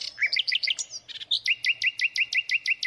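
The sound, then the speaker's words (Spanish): A bird sings: a quick cluster of high, varied warbling notes, then a steady run of about nine bright, repeated chirps in even rhythm, with no voices. “Entonces, bueno, es un libro digital de canto de pájaros, por supuesto.”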